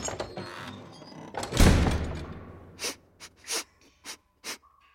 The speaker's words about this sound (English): I'm sniffing for clues.